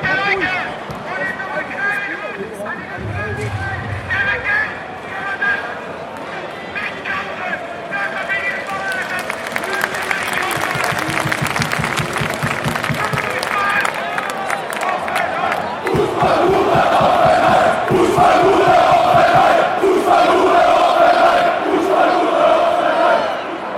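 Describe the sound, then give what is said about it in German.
A large crowd of football fans in Hoffenheim chants an abusive stadium song against Dietmar Hopp, a version heard there only in the 2011-12 season. Loud and rhythmic, with rough massed voices and sharp claps or beats that grow more intense toward the end. “Diese Version eines Schmähklassikers konnte man in Hoffenheim lediglich in der Saison 2011-12 hören.”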